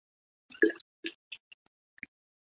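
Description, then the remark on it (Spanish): Someone drinks water: a wet gulp followed by several softer swallows and plops that fade over two seconds, with quiet gaps between them and no talking. “Así mientras bebo agua, me como un caramelo.”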